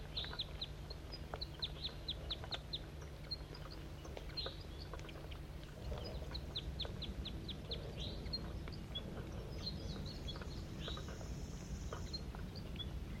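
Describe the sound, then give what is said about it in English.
Wild bird calls: quick runs of high, thin chirps repeated in bursts throughout, over a steady low rumbling hum. No one speaks. “Wild bird.”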